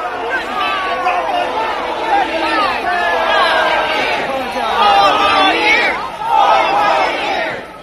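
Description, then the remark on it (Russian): A large crowd chants together in unison, a loud repeated phrase, "four more years", rising and falling in steady rhythmic bursts, with general crowd noise filling the space between the shouts. “И смотрите, как его начинает толпа, и все как будто ждали его, и начинают поддерживать и скандировать.”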